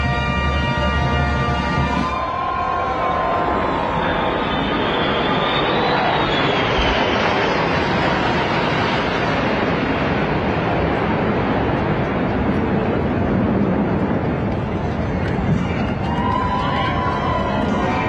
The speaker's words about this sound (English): And then there was a flyby with the new Qatari jet, so we could all witness the corruption in real time. Take a look.